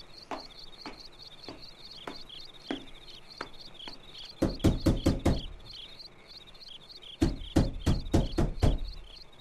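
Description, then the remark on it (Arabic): Knocking on a door at night by Jundub (Abu Dharr), who asks Anis to open the door: a series of soft, evenly spaced taps, then two loud, rapid bursts of about half a dozen knocks each, separated by a short pause. No voices. “من الطارق في هذا الليل؟ أنا جندب، افتح الباب يا أنيس.”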